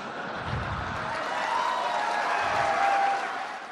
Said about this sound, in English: Of course, you hear that applause, but there was a lot of negative response to Trump's remarks.